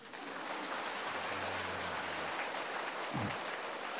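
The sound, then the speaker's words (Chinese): A crowd at a Buddhist teaching session applauds steadily for about four seconds, a dense, even wash of clapping with no pauses, joined briefly by a faint low murmur partway through. “拿了照片嘛，就不要再鼓掌了。”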